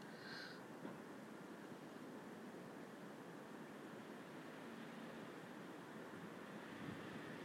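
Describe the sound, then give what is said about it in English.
Steady outdoor wind rushes and roars without pause, a broad blustery noise that stays loud throughout, with a brief higher whistle near the start and no voices. “There's the wind getting up now.”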